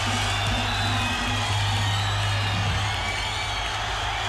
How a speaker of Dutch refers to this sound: werden met oorverscheurend gejuich en gegil begroet.